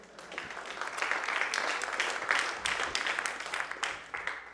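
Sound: round of applause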